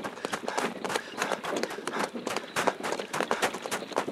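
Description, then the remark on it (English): Rapid, steady hoofbeats clatter at a brisk pace as horses pull a chariot driven by a soldier, each strike crisp and evenly spaced over a soft rumbling background. “Captain, stop the horses.”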